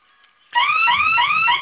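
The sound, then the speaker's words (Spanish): A security alarm keypad's fire alarm blares with loud, repeating rising electronic sweeps, harsh, starting abruptly after a faint tone and continuing steadily with no voices. It was set off by holding the keypad's two fire buttons together for five seconds. “Ok, sonó su alarma, ingrese su clave.”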